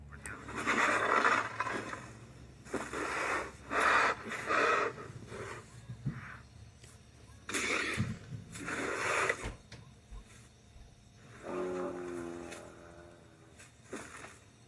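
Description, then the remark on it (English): A Ceratosaurus dinosaur vocalization sound effect from Jurassic Park 3, made from walrus, tiger and bear sounds: a series of loud, harsh, breathy snorts and huffs in irregular bursts, ending with a lower, droning growl with a tonal, moaning quality. “In Jurassic Park 3, the Ceratosaurus was voiced by walrus, tiger, and bear sounds.”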